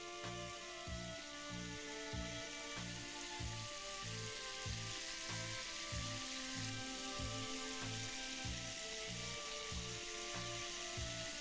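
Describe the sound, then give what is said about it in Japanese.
Shower water runs in a steady, dense hiss as it is poured from the shoulders down over someone in a bathtub to rinse them, with a faint rhythmic low pulsing beneath the spray and no talking. “シャワーで流しましょう。肩からかけますね。”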